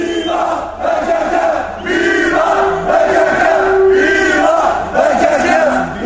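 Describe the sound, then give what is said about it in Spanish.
A large Kurdish protest crowd at a demonstration shouts loudly and continuously, many voices rising and falling together in sustained, chant-like cries that swell in waves with no pauses. “Pero lo verás, los kurdos saben gritar.”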